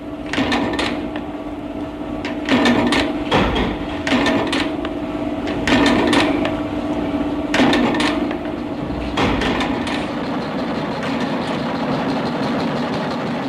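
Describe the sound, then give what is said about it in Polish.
A factory assembly line runs with a steady droning machine hum, broken by irregular bursts of loud metallic clanking and rattling every second or two. No one speaks. “Aha, taśma montażowa.”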